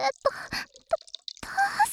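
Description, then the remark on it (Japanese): Water dripping in irregular, mid-pitched plops, a handful of drops over two seconds, mixed with brief splashy bursts of liquid noise at a moderate level. “てか、なんか水の音しない？”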